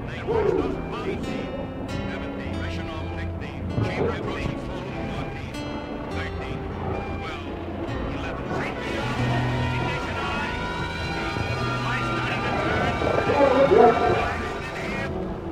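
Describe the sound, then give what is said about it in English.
A boat's engine runs steadily throughout with a deep, continuous rumbling drone, while indistinct voices and shipboard noises come and go over it, growing a bit louder toward the end. “Slow down on your engine.”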